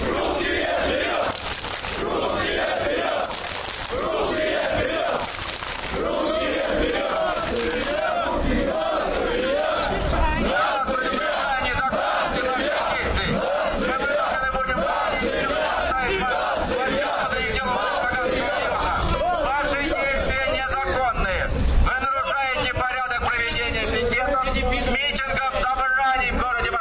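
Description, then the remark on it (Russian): A large crowd of skinheads, lined up in three rows and waving flags, chants nationalist and homophobic slogans together, loud shouted voices rising and falling in rhythmic bursts that continue without pause for the whole stretch, with a steady roar of many voices underneath. “Бритоголовые построились в 3 шеренги и начали скандировать лозунги и размахивать флагами.”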